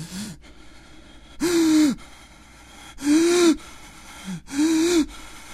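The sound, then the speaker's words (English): Heavy, frightened breathing: three loud, raspy, voiced gasps at steady intervals, with softer breaths in between and no talking. “Kumbajak ran inside and slammed the door, ran into his bedroom, slammed that door, and pulled the covers up over his head in the bed, breathing heavily.”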